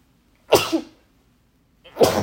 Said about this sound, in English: There's your sneeze